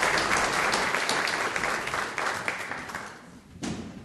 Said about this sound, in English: Okay, thank you. Thank you. Give them a clap, will you?